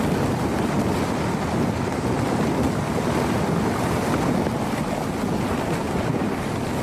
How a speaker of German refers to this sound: Du bist an Deck des Greenpeace-Schiffs Arctic Sunrise. Gemeinsam reisen wir durchs Eismeer der Arktis.